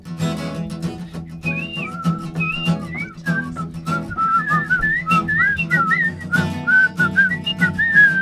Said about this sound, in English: Want a whistle?